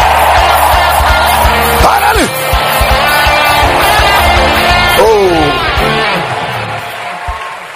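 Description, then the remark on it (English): A church audience claps and screams loudly and continuously during a sermon, a dense roar of cheering voices with rising and falling yells and whoops over steady applause. “Jesus, come and clap your hands and scream like I'm talking.”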